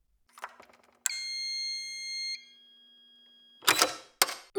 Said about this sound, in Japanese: 部屋の前に到着したビビリアは、持っていたポーチからカードキーを取り出して鍵を開けた。